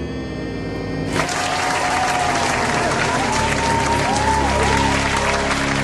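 A brief musical tone gives way, about a second in, to loud, dense audience applause that holds steady to the end, with rising and falling whistles or whoops cutting through the clapping.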